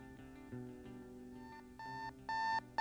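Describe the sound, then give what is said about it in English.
An alarm clock goes off at 5 a.m., playing a melodic electronic tune of bright, tonal notes, growing louder in steps toward the end. No one speaks. “My alarm sang at 5 a.m.”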